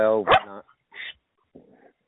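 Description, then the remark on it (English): A dog that has burst into the room lets out one loud bark, followed by a couple of quieter, shorter sounds with brief silences between them. “My dog broke in the room.”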